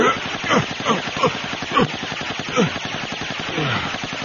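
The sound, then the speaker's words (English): A sustained burst of rapid automatic gunfire as an entire clip is emptied, dense crackling shots running for several seconds, with a few sharp descending whines cutting through the loud, continuous barrage. “He made a last pathetic attempt to lunge at her, and Christie stitched him from crotch to crown, emptying the entire clip.”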